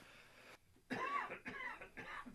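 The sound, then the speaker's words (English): A loud cough comes as three harsh bursts in quick succession after a short pause, each rough and breathy, with no talking around them. “Excuse the cough.”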